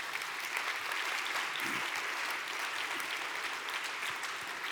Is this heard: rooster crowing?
no